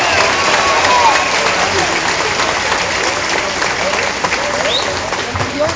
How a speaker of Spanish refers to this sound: Recibámoslos con un fuerte aplauso. Vamos a escuchar su mensaje.